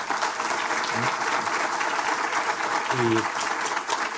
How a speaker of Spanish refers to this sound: Bueno, me gustaría un aplauso para nuestros tres panelistas.